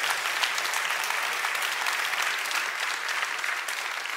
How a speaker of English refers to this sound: I need some hand claps.